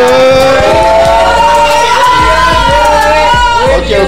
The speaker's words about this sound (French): Yes, I, bravo. Est-ce que vous pouvez lui applaudir?